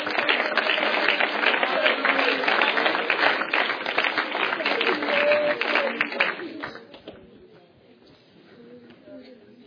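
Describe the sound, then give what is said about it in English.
An audience claps together in praise in a loud, dense burst of applause for about six seconds, then it drops away to a quieter stretch with faint voices. “I wonder if you can give him a hand clap of praise before you see.”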